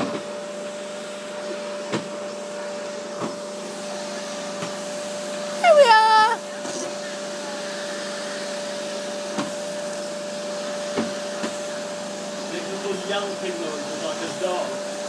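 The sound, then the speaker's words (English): A vacuum cleaner runs steadily throughout, a constant whirring drone with a tonal hum, briefly broken by a short rising whine partway through and a few faint clicks and knocks. “That's a bit of a hoover around in here, anyway.”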